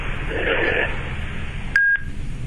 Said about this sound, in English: Hello? Yes. Hello? Something beeped there.